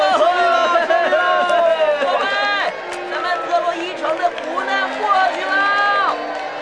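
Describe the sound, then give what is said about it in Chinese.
The generals, soldiers and a crowd of townspeople of Troy cheer and shout excitedly as they rush out of the city gate, many voices overlapping in a loud, continuous roar, with some rising whoops standing out as the throng surges forward. “特洛伊的将领、士兵和一群老百姓欢呼地冲出城门”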